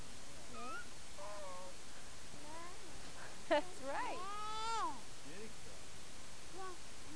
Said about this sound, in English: Meow! Is that what Kitty Cat's saying? Meow! Meow.